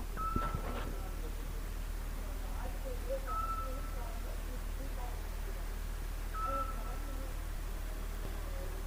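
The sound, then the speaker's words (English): A steady electronic beep sounds three times on a city street in the embassy district near the American Embassy, roughly every three seconds, moderately faint over a constant low city rumble and indistinct background murmur. “One thing about this city that I'm curious about, I don't know if you can hear it, but there's a beeping noise that happens every couple of seconds.”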